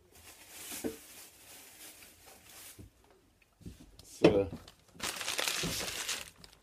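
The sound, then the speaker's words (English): A basic paper bag full of stuff, marked "keep", crinkles and rustles as it's handled, with bursts of crisp crackling and a louder sustained crumple near the end. “It's a basic paper bag, but you can see this.”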